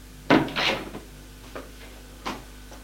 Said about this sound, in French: Elle le mène à sa chambre, lui reste la tête sur son épaule. Elle ouvre la porte, éclaire.